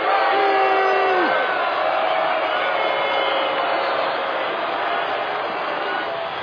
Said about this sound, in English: Can you believe this? They're booing him in his own ballpark.